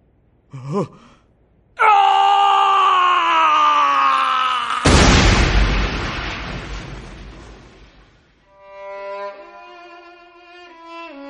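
A short gasp, then a man's long, loud, strained scream for about three seconds, swallowed by a harsh noisy rush that fades out before a soft tonal melody begins.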